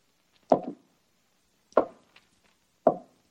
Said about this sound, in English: First, the door opened. Then there were hollow footsteps.